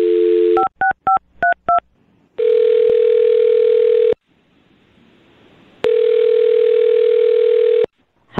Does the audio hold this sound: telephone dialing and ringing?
yes